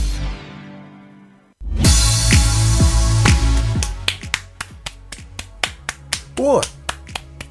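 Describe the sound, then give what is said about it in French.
A lone host claps by himself, about a dozen crisp, evenly spaced claps, fairly loud, following a dense burst of sound, with a soft tonal hum lingering underneath. “Oui, j'applaudis tout seul, évidemment.”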